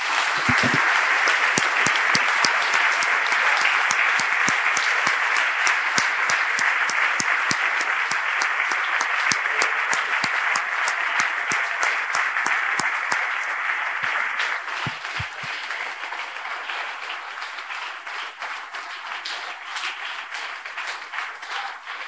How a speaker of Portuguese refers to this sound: Vamos aplaudir, Senhor.